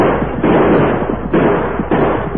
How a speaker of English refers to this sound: Within range? Almost. I want them to hear our guns. The smoke and the attack at the same time.